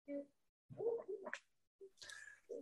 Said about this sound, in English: I can't stop the hiccups, dude.